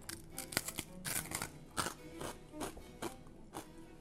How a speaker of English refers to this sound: And then these, the basically Cretan hardtack. Let me crunch on this.